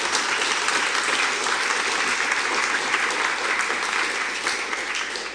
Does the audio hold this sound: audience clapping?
yes